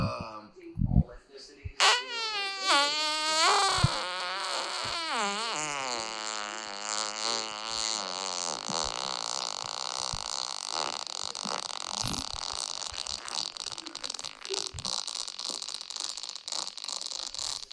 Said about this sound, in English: In the middle of this fart, it becomes a Geiger counter for radiation. Like, wait till you fucking hear this thing, dude.